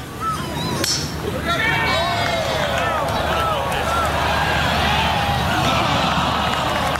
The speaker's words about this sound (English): Here the crowds are disappointed as it ended up a few feet short and splashed in.